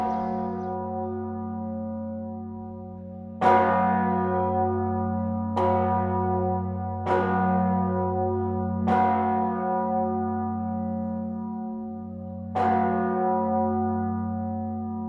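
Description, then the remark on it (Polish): A large church bell, the Gracia Dei bell of St. Mary's Church in Gdańsk, tolls slowly and heavily, about five strikes spaced a couple of seconds apart, each one's deep hum lingering and overlapping the next. No voices are heard. “Największym z 1454 był dzwon nazywany właśnie Gracia Dei i to powojenny wziął nazwę od swojego poprzednika.”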